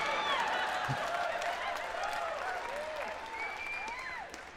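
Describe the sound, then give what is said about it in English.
A crowd applauds steadily for several seconds, a dense wash of clapping with scattered whoops and high cheers rising over it, tapering slightly toward the end. “Oh, don't clap boy.”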